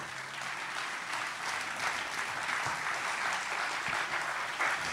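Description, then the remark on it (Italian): An audience applauding itself at the opening of an event with Ascanio Celestini: a dense, even wash of many hands clapping that holds at a fairly constant level throughout, with no voices standing out. “Allora, il nostro solito rito, fatevi un applauso, grazie di essere qui.”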